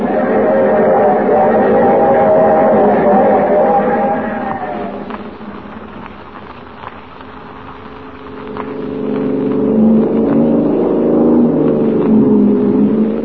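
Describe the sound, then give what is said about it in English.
A car engine drones steadily as the car chases another car up ahead, its pitch sliding down midway as it eases off, then rising again into a loud, climbing whine as it accelerates hard. “Car up ahead. Faster, Paul.”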